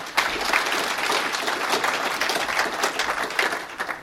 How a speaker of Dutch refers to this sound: En ik wil eigenlijk met een applaus de hele redactie van Electrum bedanken voor hun jarenlange inzet.